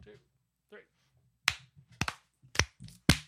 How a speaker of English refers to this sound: Yes, four claps. Four claps.